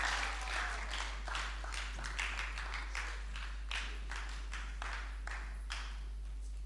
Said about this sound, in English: Clap your hands together for the Lord and rise to your feet.